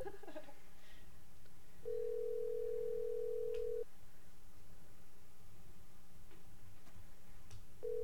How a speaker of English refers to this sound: Usually answers after more rings.